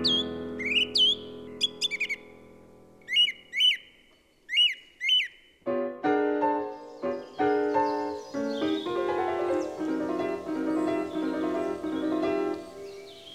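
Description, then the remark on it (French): Clear, bright birdsong of repeated chirps and whistled phrases from blackbirds, robins, dunnocks, wrens, tits, thrushes, a turtle dove and some corvids rings out in a quiet dawn chorus, then a swell of sustained, layered music rises and largely covers the birds. “Donc là, on a toute la cohorte des oiseaux classiques, le merle, le rouge-gorge, l'accenteur, le troglodyte, les mésanges, les grives évidemment, la tourterelle, quelques turdidés, des corvidés aussi un peu.”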